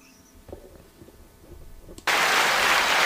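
After two seconds of low, muffled murmuring, a crowd suddenly erupts into loud, sustained cheering, a dense roar that holds steady until the end.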